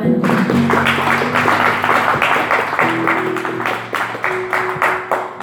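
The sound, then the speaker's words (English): A crowd claps hands together in a steady, rhythmic, loud beat, while sustained keyboard or organ tones hold underneath. “Clap more.”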